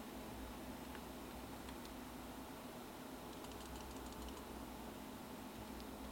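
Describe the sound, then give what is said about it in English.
Faint, soft clicks of typing on a computer keyboard while searching for a song, a short quick burst in the middle with a few scattered taps, over a steady low hum, with no one talking. “No, I should just type in the actual title instead of just typing in the artist.”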